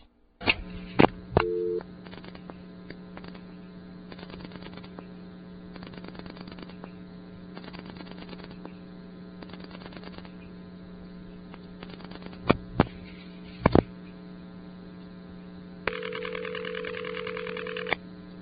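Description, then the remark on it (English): Over a steady electrical hum, a few sharp switching clicks sound as a call goes to a ringing number in a crossbar 3 switch, then a buzzy, harmonic-rich telephone ring tone starts near the end and holds steadily, fairly loud, with no talking. “Notice the ring tone that you just heard. That sounds a lot like the ring of an electronic switching system, but it really isn't.”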